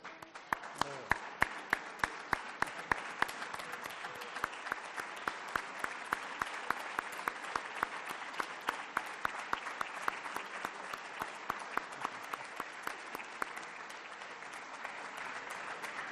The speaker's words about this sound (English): We want to give you some applause.